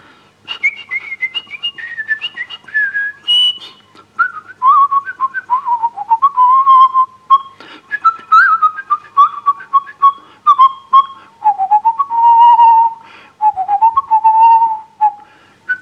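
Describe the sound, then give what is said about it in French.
A person whistles a lilting, dance-like musette melody alone, the notes gliding between phrases with short breaths in between, fairly loud and steady for about sixteen seconds. “Celui dont je me souviens, ah, je ne sais pas bien siffler, mais...”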